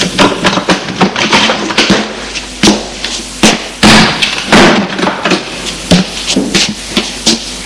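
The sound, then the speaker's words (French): The door of the apartment across the hall opening, with a rapid series of sharp clicks, knocks and thuds from the latch and handle, some louder bumps scattered throughout and no voices. “Le lendemain matin, en sortant de chez lui, la porte de l'appartement de la chambre d'en face de chez lui s'ouvre.”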